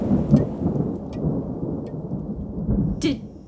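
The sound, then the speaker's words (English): A thunderstorm rumbles with deep, rolling thunder and steady rain, ending in a sharp crackling burst near the end. Loud, with no voices. “The storm, it stopped.”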